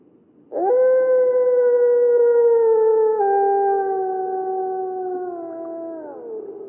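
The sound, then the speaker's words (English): A single long, sustained wolf howl rises abruptly and holds steady for about six seconds before sliding downward at the end, clear and strong with no talking or other sounds around it. “The first time I heard them howling, I was probably 12 or 13, and I still remember it in my body, that sounds that echoes and resounds everywhere in your body when you hear it.”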